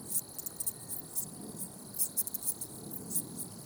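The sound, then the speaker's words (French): An Italian tree cricket chirps at nightfall as the light fades, in quick, high-pitched bursts that come in an uneven rhythm, heard alone over a soft, steady low rumble. “Voilà, le grillon italien se met en route parce que la nuit tombe, que la lumière baisse.”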